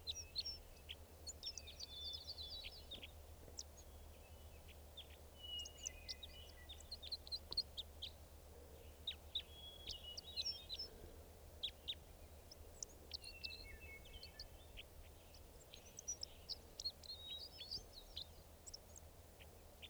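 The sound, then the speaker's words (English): Wild bird calls, probably from a lone male, ring out repeatedly: sharp high chirps and short trilling phrases scattered across the whole stretch over a steady low hum, with no one speaking. “There it is. Wild bird calls.”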